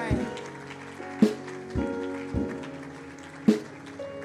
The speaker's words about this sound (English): I think you can do better than this with the lively clap.